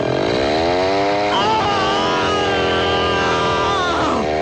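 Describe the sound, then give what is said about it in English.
A chainsaw in a trailer for the film Texas Chainsaw Vasectomy roars loud, its engine pitch climbing as it revs up, then bogging and surging again in a steady, buzzing snarl for several seconds. “But when the sun goes down, he goes crazy in the Texas Chainsaw Vasectomy.”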